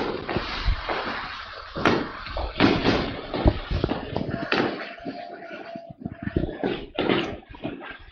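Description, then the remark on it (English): New Year's fireworks pop and crack outside a house in a rapid, irregular barrage, some bangs sharp and loud, others muffled, with a steady rumble between blasts and faint voices of people hollering in the background. “Is that real fireworks, or are you banging on a garbage can? No, that's outside my house.”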